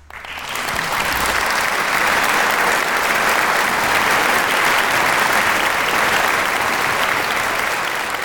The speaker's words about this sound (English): Applause sound effect.